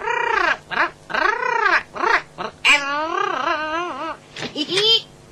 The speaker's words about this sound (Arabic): إنه طائر جميل ونادر أيضا. هل يتكلم؟ أحيانا.